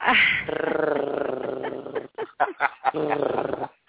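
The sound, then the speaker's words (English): A voice imitates a panther's purr with a loud, rough, throaty rumble held for about two seconds, then breaks into several short growling bursts before one more sustained rumble. “It would be so appropriate to do your panther purr.”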